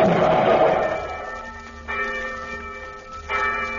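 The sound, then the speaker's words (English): A large bell tolls slowly, with a long ringing strike at the start followed by two more evenly spaced strikes, each leaving rich, shimmering overtones that hang in the air. “Why the bell? It was our only toll bridge.”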